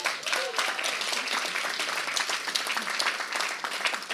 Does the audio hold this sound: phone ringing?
no